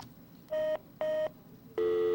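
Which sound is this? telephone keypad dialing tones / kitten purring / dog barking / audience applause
telephone keypad dialing tones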